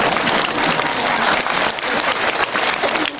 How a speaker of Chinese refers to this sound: 好了，坐下来了，人家鼓掌叫你下来了。